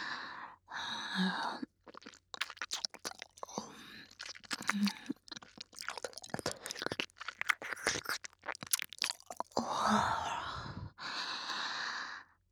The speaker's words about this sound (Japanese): 男性を興奮させるにはお耳を舐めるのが最も効率が良い方法です。